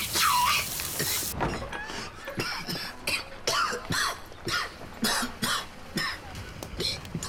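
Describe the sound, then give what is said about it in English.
A person coughs after inhaling smoke: a harsh, loud burst of coughing opens, followed by a ragged fit of repeated hacking coughs and throat-clearing, uneven in rhythm, continuing for several seconds. “Don't cough. In, breathe. Inhale. Enjoy.”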